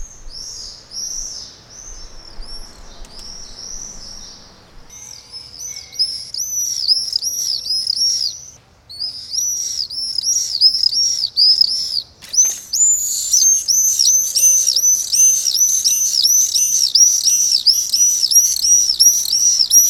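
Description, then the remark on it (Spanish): Swifts nesting at a house scream in the morning, with a constant chorus of shrill, rapid high-pitched calls from chicks and adults that grows denser and louder in the second half, no voices present. “Y los vencejos son como punkis, y la forma en la que gritan, en la forma en la que vuelan, en la que viven, son unos seres muy curiosos.”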